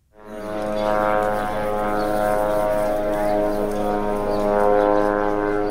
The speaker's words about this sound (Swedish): Så här låter Sanana, drönaren som israelisk militär övervakar Gazaremsan med. Ljudet skrämmer barnen i Gaza, berättar Rinat Kubertz från sitt kontor i Ramallah på Västbanken.